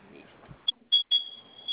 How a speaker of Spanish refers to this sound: Ahora, por favor, vuelvo a oprimir los dos botones de la flamita al mismo tiempo, que se active la alarma y vuelve a ingresar su clave, por favor.